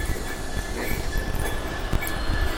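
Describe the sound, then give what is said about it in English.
A goods train rumbles into a station at steady volume, its wagons clattering over the rails with low, heavy rolling noise and occasional sharp metallic knocks. No one speaks. “There's a little bit of activity here. We've got kind of good to train in.”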